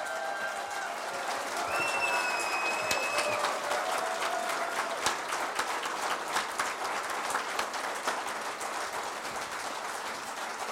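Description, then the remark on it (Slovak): A large audience of the live programme Braňo Závodský a Iveta Radičová naživo claps steadily as Professor Iveta Radičová is welcomed, a dense, continuous patter of many hands, with a few brief whistles rising above it near the start. “A do toho potlesku by som to využil a privítal by som pani profesorku Ivetu Radičovú.”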